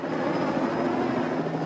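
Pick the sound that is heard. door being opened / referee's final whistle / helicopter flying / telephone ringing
helicopter flying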